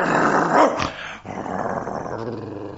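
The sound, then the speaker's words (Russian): A dog named Bim growls at a guest at home in a low, rough rumble with a sharper snarling burst near the start, then keeps up a steady throaty growl; no one speaks. “Вот значит, он и жильцов в подъезде облаивает так же, как, допустим, лисиц.”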